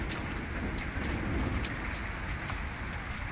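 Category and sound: nature, thunderstorm with rain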